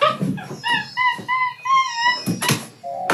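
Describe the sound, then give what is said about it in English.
A 12-year-old capuchin monkey from Texas makes a run of high, thin whistling squeaks and whimpers, several short calls in quick succession, fairly loud, with a couple of harsher bursts near the end. “That's Georgie Boy, a 12-year-old capuchin monkey from Texas who became a social media star”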